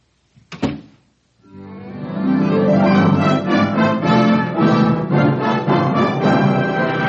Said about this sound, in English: Close the door.